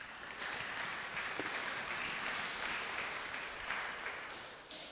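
A crowd claps steadily in a dense, sustained round of applause lasting several seconds, with many overlapping hand claps at an even, moderate loudness and no voices standing out.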